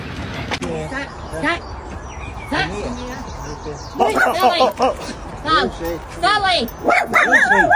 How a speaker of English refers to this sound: Your dog is way out of control. Get out of here. Why is your dog off leash? Back. Sit. Hey. Why are you not getting over here and controlling your dog?